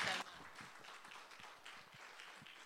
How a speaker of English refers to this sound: Thank you both so much for sharing with us. Can we give them a clap?